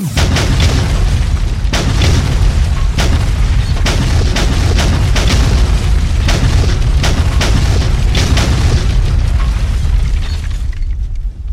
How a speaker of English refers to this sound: Good hits. Bombs on target.